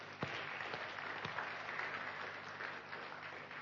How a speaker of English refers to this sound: We are super blessed to have all of those people serving God and making a difference in this place. So can we honour them with a clap this morning as well?